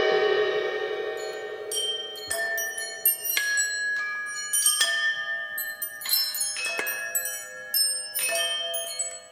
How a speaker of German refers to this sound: Beim Klingeln wird es auch hier nicht bleiben, oder sagen wir nicht, beim heiligen Klingeln in diesem Stück Money, Money, Money.